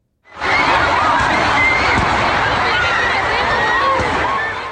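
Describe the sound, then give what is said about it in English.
A large crowd in Manchester screams and shouts in a loud, continuous roar shortly after an explosion at a concert, with high-pitched wails and cries rising over dense, panicked babble for the whole stretch. “This is these were some of the sounds last night, shortly after that blast in Manchester.”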